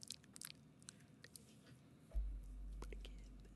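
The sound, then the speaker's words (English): A voice mimics a mom chewing gum at her kid's play with quick, wet smacking and clicking mouth noises, followed by a low rumbling thump and sustained muffled noise. “And she's like, she's like chewing the gum, like, and she's like, and then she's taking a picture.”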